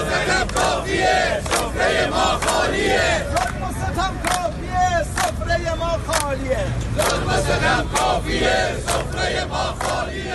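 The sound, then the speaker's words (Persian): Protesters in Iran bang empty cooking pots over and over in sharp, clanging metallic strikes, mixed with a loud crowd shouting and chanting throughout. “صدای قابلمه‌های خالی مردم را بشنوید.”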